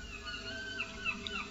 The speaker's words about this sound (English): Ooh, I hear some seagulls. You hear the seagulls, yeah. Where are they coming from? Well, we're just on the edge of the English Channel and the Atlantic.